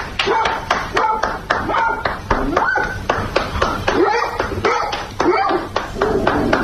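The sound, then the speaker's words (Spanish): A dog barks and yelps repeatedly while hands clap in a steady, brisk rhythm, the barking weaving loudly through the continuous applause for health workers at 8 pm at the home of Argentine basketball player Nicolás Ricciotti. “Hay un cuatro patas también aplaudiendo a las 8 de la tarde en el domicilio de este jugador de baloncesto.”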